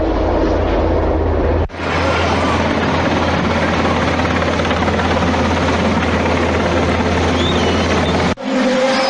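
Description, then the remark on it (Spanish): A military Caimán helicopter of the Belma 3 battalion from Agoncillo roars loudly as it lands on the grass of Las Gaunas in Logroño, its steady rotor wash and engine whine filling the air, with a brief cut partway through and no voices. “Y minutos después, aterrizaba sobre el césped de las Gaunas el helicóptero Caimán del batallón Belma 3 de Agoncillo.”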